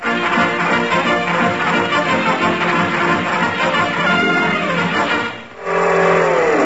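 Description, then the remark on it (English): A loud car engine runs steadily, then briefly drops off before revving back up with a rising pitch as the car pulls away to chase a jeep. No one speaks. “Well, then I'll chase him. Give me your car keys, Doc.”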